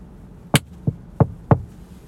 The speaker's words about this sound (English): You didn't have to knock. You know you can just come in.